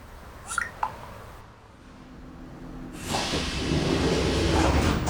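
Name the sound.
subway train in motion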